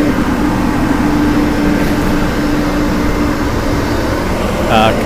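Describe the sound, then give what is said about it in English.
Heavy dumpster hauling truck machinery from Sal's Hauling, Carlstadt, New Jersey, rumbles loudly and steadily, a dense mechanical roar with a low droning hum, and a brief higher squeal near the end. “Today's dumpster noise, courtesy of Sal's Hauling, Carlstadt, New Jersey.”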